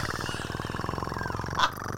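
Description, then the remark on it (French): A voice imitates hookah water bubbling in a shisha lounge during a silence at a comedy night, a steady, rapid low gurgling rattle lasting about two seconds, broken by a brief sharper burst near the end. No words are spoken. “Puis, t'entends les bulles en train de...”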